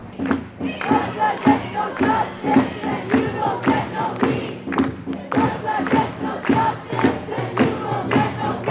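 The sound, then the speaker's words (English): A protest crowd of several hundred residents at a demonstration in Waterloo on Sunday, May 25th, making demands of the Canadian government, chants in unison, many voices repeating a short phrase over and over in a steady, driving rhythm with regular beats, loud and sustained throughout. “On Sunday, May 25th, several hundred residents attended a demonstration in Waterloo which demanded that the Canadian government”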